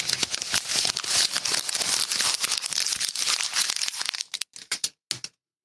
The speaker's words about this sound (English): paper crinkle. Very satisfying.